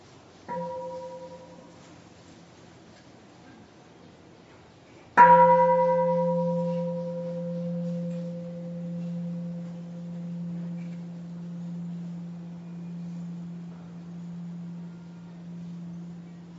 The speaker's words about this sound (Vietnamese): Xin mời đại chúng thở theo tiếng chuông, rồi tôi sẽ nói tiếp.